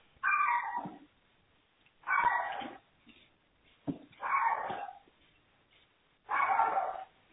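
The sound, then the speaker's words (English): A puppy barks four times in drawn-out, whiny yaps spaced a couple of seconds apart, clear with nothing else around it. “Hello to someone's puppy dog.”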